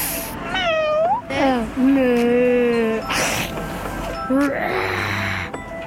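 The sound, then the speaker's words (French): A voice imitates a cat, giving a few drawn-out, wavering meows in quick succession, fairly loud, with a breathy hiss-like noise between some of the calls. “je connais la vache, le chien, le chat, le serpent”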